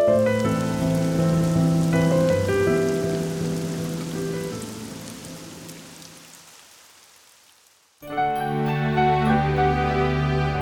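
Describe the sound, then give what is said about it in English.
Steady rain patters beneath soft, sustained musical tones, slowly fading almost to silence before the music and rain swell back in, clear. “India was warm and sunny, but England was cold and rainy.”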